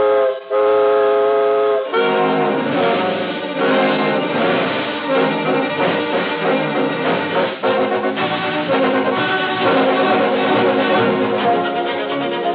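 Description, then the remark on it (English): A steam whistle sounds a sustained, chord-like blast, followed by the loud, busy, continuous churn of a locomotive getting under way. No one speaks. “The steam pressure is up, and we're off on the second leg of our swift journey across America”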